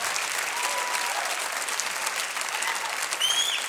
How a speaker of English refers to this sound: You better not applaud too much. I got to keep it moving.